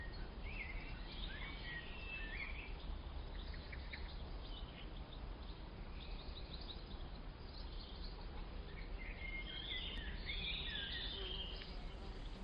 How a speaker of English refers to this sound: There is the drowsy hum of bees among the flowers, the dance of butterflies, a slow piping of birds.